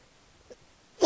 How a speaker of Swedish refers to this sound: Jag önskar jag inte behövde hosta så mycket.